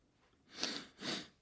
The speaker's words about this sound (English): There's a wee sniff.